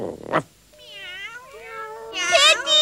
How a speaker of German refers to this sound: Pitti, sag doch endlich was, damit die 100 Katzen verschwinden